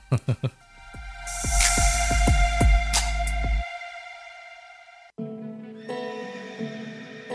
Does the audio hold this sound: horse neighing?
yes